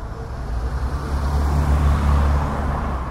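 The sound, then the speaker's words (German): A bus engine rumbles, a deep, steady drone with road noise that swells slightly midway as the first buses from Almaty arrive early in the morning at the end of a highway on Kazakhstan's border with China. No one speaks. “An der Grenze zu China, am Ende einer Schnellstraße, treffen schon früh morgens die ersten Busse aus Almaty ein, der früheren Hauptstadt Kasachstans.”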